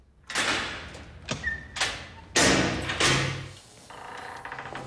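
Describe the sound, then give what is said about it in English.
A heavy metal cell door opens in a series of loud, grinding clanks and scraping bursts, with a brief metallic ring and a rattling slide as it settles. No voices. “A cell door opens.”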